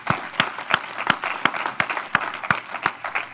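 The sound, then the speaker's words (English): An audience claps steadily to thank a man for 35 years of service, a dense patter of many hands with sharper, louder claps landing at a regular beat, as if some are clapping in time. No voices are heard. “The consequence of not knowing that you're coming on 35 years is that all you get is a clap.”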